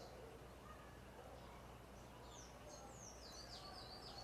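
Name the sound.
birds chirping outdoors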